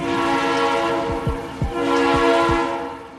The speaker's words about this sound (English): Those are the sounds of an actual train. And whether it's a freight train or a people train, trains have been around for more than 200 years.